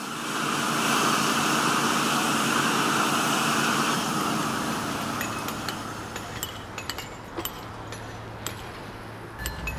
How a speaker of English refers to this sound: We close with three sounds of people working: pressure washing a building, limestone work by stonemasons, and a freight train